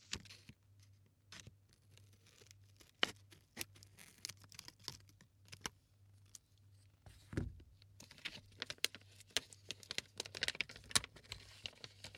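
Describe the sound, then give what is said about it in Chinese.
A jelly snack package is torn open by hand without scissors: irregular crinkles, small rips and clicky plastic rustles over several seconds, fairly quiet, with a faint steady hum underneath and no talking. “为什么不用剪子呢？我好像个笨蛋，吐了呀。”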